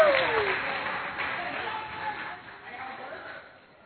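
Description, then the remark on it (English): An audience at a service applauds steadily for the Falls Creek team and Prayer of Faith World Outreach, a dense wash of clapping that starts strong and gradually thins and fades over a few seconds, with a brief whistle-like tone at the start. “Let's hear it for our Falls Creek team and for Prayer of Faith World Outreach.”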